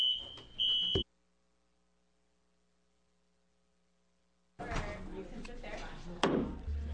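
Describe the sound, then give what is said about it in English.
A shrill, steady fire alarm tone blares for about a second during a public hearing on a Senate bill and cuts off abruptly, leaving near silence with a faint hum before muffled voices and room noise return. “Fire alarm.”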